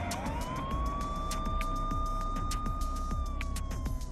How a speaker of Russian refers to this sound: Тонко, пронзительно взвыла сирена, и стрелок увидел, как по передней части экипажа заскользили красные пульсирующие вспышки света.